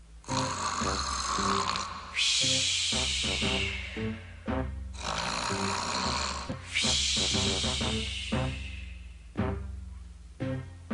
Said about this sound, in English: He climbed back into bed and put the covers over his head. Soon, from under the blanket, snores began to rumble.